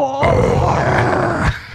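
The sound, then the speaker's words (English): A harsh heavy metal vocal scream, one loud, gritty, growling burst sustained for over a second before cutting off abruptly, with no other talking around it. “You got the heavy metal scream happening there.”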